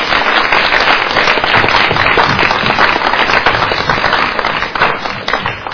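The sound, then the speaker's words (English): A round of applause from a group thanking a guest for coming: many hands clapping in a dense, crackling wash that holds steady and loud for about six seconds, easing only slightly at the end. “Let's just give Glenn another round of applause.”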